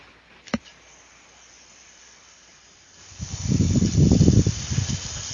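A sharp click, then quiet, then a thrown yo-yo spinning as it is held up to a microphone: a rough, fluttering whir that swells loudly and wavers unevenly for the last two seconds, with no talking.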